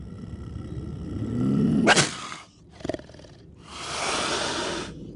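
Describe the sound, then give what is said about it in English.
A Florida panther named Duke, a big cat of about 130 pounds and 6 feet long kept in a backyard, growls low, building into a sharp snarling burst, then a short second snarl, followed by a long, harsh hissing exhale. No one speaks. “That's a Florida panther.”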